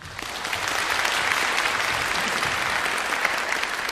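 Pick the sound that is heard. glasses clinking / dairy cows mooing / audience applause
audience applause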